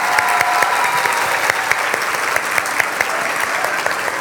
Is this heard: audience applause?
yes